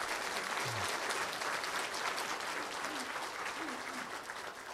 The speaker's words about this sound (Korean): 우리 박수 한번 쳐주시기 바랍니다.